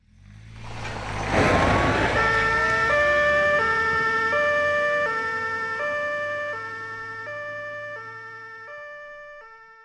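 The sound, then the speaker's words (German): A police car carrying an officer and a colleague pulls away with its two-tone siren wailing steadily, alternating high and low, over a brief engine rumble that fades as the vehicle moves off. “Meine Mama fährt dann mit einem Kollegen oder einer Kollegin im Auto los, wenn sie am nächsten dran sind.”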